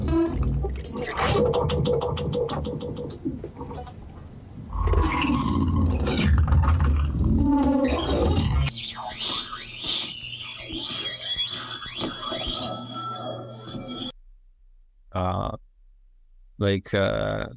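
A magnet scrapes and skitters across ridged glass, giving rapid rattling grains and squealing tones that turn into glitchy, high-pitched buzzing textures broken by abrupt silent dropouts near the end.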